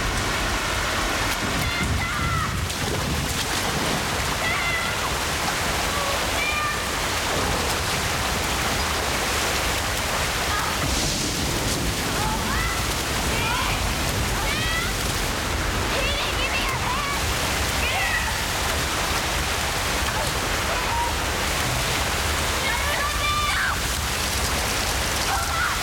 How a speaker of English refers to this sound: A flood of water pours into the gutter.